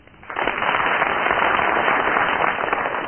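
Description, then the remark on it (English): A burst of applause from a studio audience judging Barry Cryer's tie-tying swells in after a brief quiet start and holds steady as a dense, crackling wash of many hands clapping for about three seconds. “First of all, will you give your applause or otherwise for Barry Cryer?”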